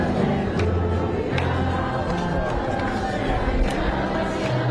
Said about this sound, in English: The crowd quietly singing Alleluia. There is cautious optimism here.